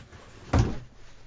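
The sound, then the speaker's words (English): A door being opened to let a dog in, heard as one short, dull knock with a low thud that fades within a fraction of a second against a quiet background. “Oh, she can't get in through that door.”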